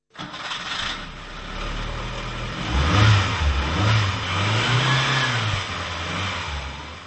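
A Škoda Favorite car's engine cranks and catches, then runs with a few rising and falling revs, fairly loud with no voices.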